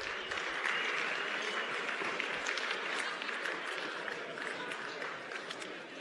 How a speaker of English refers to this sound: One final time, if we would. For all those who were nominated, for all those who won tonight, one more round of applause, if we would.